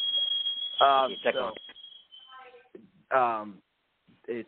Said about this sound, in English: my fire alarm's going off again. Oh, my gosh, this is ridiculous.